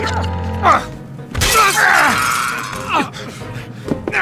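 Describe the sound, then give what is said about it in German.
A vase shatters with a sudden bright crash, then glittering shards tinkle and scatter for a couple of seconds, with a few low grunts or voices around it. “Die Vase, jetzt!”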